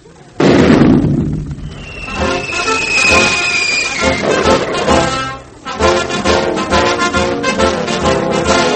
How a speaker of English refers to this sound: Well, I was in that cannon you shot off, and I landed in the water, oh, me. Well, tell me, how's the shell I invented? Is it powerful?